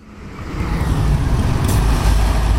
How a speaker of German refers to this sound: Auf der Hauptstraße in Sins, ein Verkehrsknoten in Richtung Zug, Luzern und Aarau, staut sich der Verkehr. Es ist entsprechend laut.